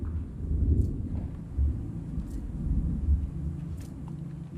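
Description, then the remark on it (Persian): Deep, rolling thunder rumbles steadily through a stormy backdrop, its low growl swelling and fading in waves, with faint hiss of rain and no voices present. “خانم ها و آقایان، یه طوفان داشت به سمت مگی و پال می اومد، درست مثل طوفانی که الان دارید حسش می کنید.”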